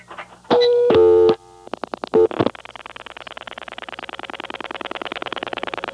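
A loud telephone dial tone briefly sounds, then a few short tone bursts as digits are dialed, followed by a rapid, steady train of buzzy pulses on the line. No voices.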